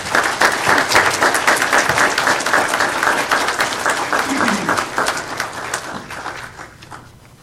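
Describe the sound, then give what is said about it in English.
A large audience at a Baptist church applauds steadily for men being thanked for their service, a dense wash of many hands clapping at once, holding strong for several seconds before thinning out and fading near the end, with faint voices mixed in. “Again, round of applause for these gentlemen.”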